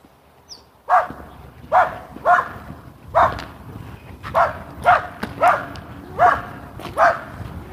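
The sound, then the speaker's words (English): Small dogs bark excitedly at an approaching person in a rapid series of about ten sharp, high yaps, fairly loud, with brief gaps between each bark and no talking. “Oh, little dogs. I'm very excited by an oncoming person.”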